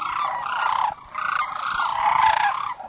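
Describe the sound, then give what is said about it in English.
A dense chorus of sandhill crane calls, rolling, rattling trumpeting notes overlapping in a steady loud wash, with a brief lull about a second in before the flock swells again. “Hank Lentfer, author and lifelong Alaskan, helped establish a 4,000-acre refuge for sandhill cranes.”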